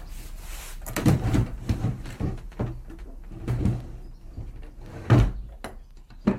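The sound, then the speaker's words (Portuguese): A cupboard door is opened in a grandmother's house to show clothes kept inside, with a series of wooden clunks and soft rattles spread over several seconds and a louder knock near the end, with no voices. “A minha avó abriu um armário e mostrou-me a roupa que queria que lhe vestíssemos quando morresse.”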